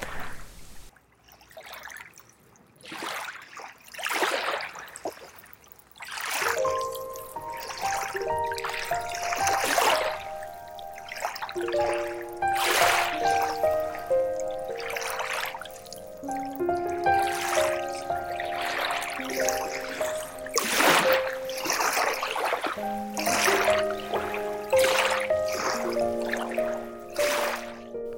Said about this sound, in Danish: Faktisk er lyden af vand noget af det mest beroligende for vores nervesystem. Så hvis du kommer i nærheden af noget vand, så næste gang så lige stop op og tag lyden ind.